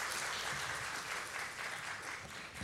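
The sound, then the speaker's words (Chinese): A church audience on Children's Sunday applauds the choir steadily, many hands clapping together in a dense, continuous patter that holds at an even level for a few seconds, with no voices standing out. “不如俾掌声去鼓励同埋欣赏我哋嘅诗班弟兄姊妹，好唔好啊？”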